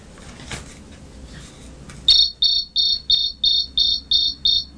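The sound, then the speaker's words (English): A cricket chirps by rubbing its wings together in eight short, evenly spaced bursts of bright, high-pitched trilling, loud, following a couple of seconds of quiet background hiss. “She too was a very quiet cricket. Then he rubbed his wings together one more time.”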